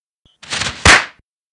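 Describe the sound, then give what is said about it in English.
A brief scraping slide, then one loud thud as a skater on a wide lake slams into a pole, cutting off quickly with no voices. “Eve hits a pole.”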